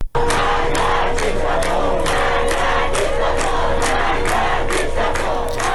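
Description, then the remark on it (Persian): A large crowd of students chants slogans in unison at the University of Isfahan, loud and continuous, with rhythmic bursts of voices rising and falling throughout and a steady hum beneath. “دانشجویان همچنین در دانشگاه اصفهان شعار دادند.”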